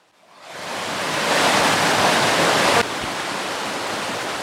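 mountain stream water flowing

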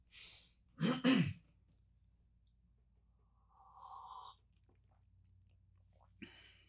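sipping and swallowing coffee

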